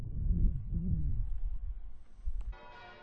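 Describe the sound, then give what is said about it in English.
Church bells ring, a low, wavering hum of overlapping tones followed by a brighter clang near the end, with no one speaking. “It's crazy bells. Hopefully they're not putting you off too much.”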